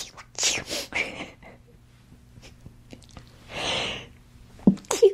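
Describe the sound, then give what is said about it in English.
Breathy gasps build up and then a single sharp sneeze bursts out, followed by a few short sniffs and mouth sounds. No one speaks. “I'm going to sneeze.”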